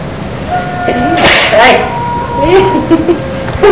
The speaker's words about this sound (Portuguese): Ai! Ele hoje tá ruim. Ele tá espirrando desde ontem.